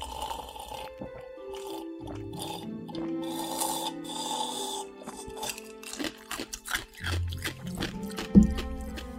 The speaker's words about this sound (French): C'est croustillant les glaçons. Ça fait froid mais... pas grave.